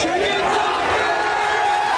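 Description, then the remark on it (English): A dense movie theater crowd yells and cheers at once during a film scene of a character riding a chicken like a horse, a steady, loud wall of overlapping shouts and whoops with no pauses across the whole two seconds. “And during the scene, the movie theaters start getting trashed. People are yelling.”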